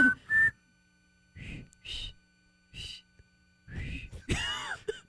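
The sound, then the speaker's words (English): Several short, breathy puffs of air, with only faint, wavering tones now and then, like someone repeatedly trying to whistle and mostly just blowing. “I mean, I can't whistle. You can't whistle at all? No, not really. Try it. It's not whistling, it's just blowing.”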